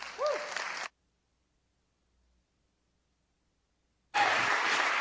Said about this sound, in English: So guys, please give a warm round of applause for